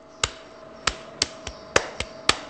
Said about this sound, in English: As one of his potters slaps clay before putting it on the wheel